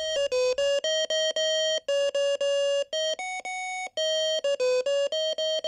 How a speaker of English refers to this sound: Any patients at risk of falling have bed alarms that go off as soon as the patient rises from the bed. Since a patient can fall in the blink of an eye, the alarm is distinctive.